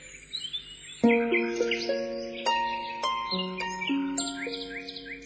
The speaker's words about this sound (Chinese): 阿姐带着我走进了大山的怀抱，小鸟在枝头跳来跳去的唱歌，热情地迎接闯山的客人。